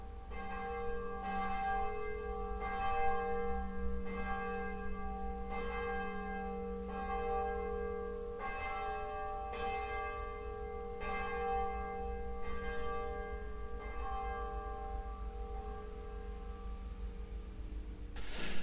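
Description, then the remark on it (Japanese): The Angelus bell of Urakami Cathedral in Nagasaki, Japan, rings out in a steady series of strikes, roughly one every second and a half, each ringing tone overlapping into a sustained hum, with no voices present. “はい、私はですね、まず思い浮かべるのはやっぱりアンジェラスの鐘なんです。”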